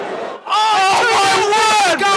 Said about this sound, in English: What a goal by Luke Coulson. Oh my goodness. And that is getting applause from the Hartlepool fans,